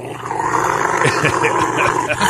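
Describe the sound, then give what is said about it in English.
A large Rottweiler growls and grumbles continuously while a man gives it a bath, a low rumbling vocalization with rising and falling moans, loud and steady throughout. “a guy giving his Rottweiler a bath”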